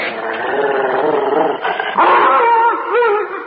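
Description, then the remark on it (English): A dog named Kim howls and whines in long, wavering cries, then breaks into yelping barks, loud, sustained for a few seconds without any talking, as he is brought inside through a door. “He's protesting rather vehemently, sir.”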